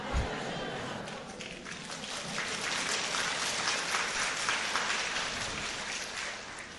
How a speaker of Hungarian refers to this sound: És akkor most már így tapsoltok, akkor nem titok, tudjátok, hogy kiről szólok.